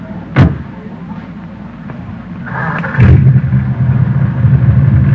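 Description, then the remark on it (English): A sharp knock, then a brief whirring crank as the engine of an old jalopy car turns over, catches and settles into a steady, low rumbling idle that continues to the end. “Man, the engine sounds nice, doesn't it?”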